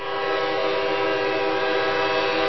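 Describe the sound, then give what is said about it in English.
A train horn blares in one long, unbroken blast as a train approaches a railroad crossing, loud, its rich chord holding steady for the whole moment with a low rumble of the train underneath. “You know, you can be issued a hefty ticket for being caught on a railroad crossing when a train's approaching.”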